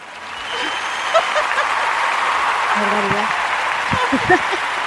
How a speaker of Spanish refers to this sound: Pues eso que es que no me acordaba que tenía aplausos y vamos a usarlos. Entonces así más arropadita.